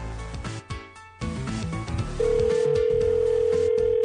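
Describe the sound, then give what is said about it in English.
A phone line tone begins partway through, a steady continuous ring like an outgoing call waiting to connect, sounding loud and clear over background music that plays throughout. “It's like, oh my god, he's quivering by the phone. He's afraid to answer now.”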